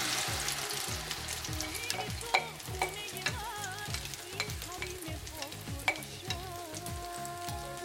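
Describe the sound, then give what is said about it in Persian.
Persian herb frittata (kuku sabzi) batter, just added to about a cup of hot oil in the pan, sizzles steadily, a dense crackling hiss with a few sharper pops and clinks standing out over a low, rhythmic pulsing undertone; no one speaks. “روغن ما داغ شده و من الان مایه کوکو رو بهش اضافه می‌کنم.”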